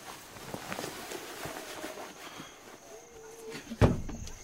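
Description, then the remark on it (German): A few soft footsteps approach, then a door is unlatched and pulled open with a sharp clack near the end, followed by a brief rustle, as someone answers shouted demands at the door to open up for an inspection. “Aufmachen und wir treten die Tür ein!”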